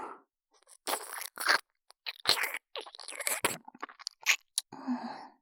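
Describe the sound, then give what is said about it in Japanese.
Wet mouth sounds of a girl licking and nibbling a young man's ear: a string of soft smacks and crunchy clicks in irregular bursts, intimate, with no talking. “もしかして、女の子に耳舐められるの初めて？”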